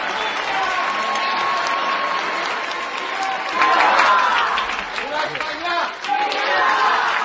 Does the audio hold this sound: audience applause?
yes